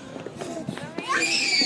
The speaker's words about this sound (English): You can hear them running around and playing.